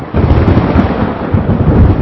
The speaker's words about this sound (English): Okay, it's hard to describe thunder, so I brought a little clip of what thunder sounds like.